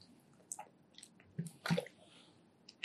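speaker drinking water

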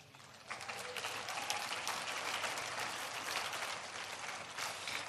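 audience clapping

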